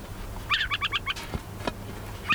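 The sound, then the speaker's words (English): A tiny brown and white adult owl, no more than 10 inches tall, rises on spindly legs and gives a warning call: a quick run of five sharp, chattering notes, then another burst begins just before the end, clear over a faint low hum. “He rises up on a pair of spindly legs, sounding a warning call.”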